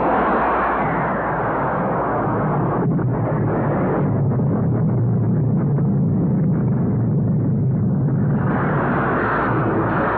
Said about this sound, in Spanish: Quince minutos duró el bombardeo a la moneda. Durante 15 minutos, dos aviones Hawker Hunter bombardearon la moneda.